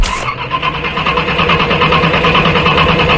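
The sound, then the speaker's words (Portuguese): A car engine cranks over and over without catching, a loud, rhythmic churning that labors steadily for a few seconds with no voices. “Dificuldades para ligar o carro. E demora para ligar o motor?”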